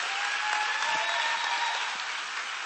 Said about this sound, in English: Y'all give yourselves a hand clap for that.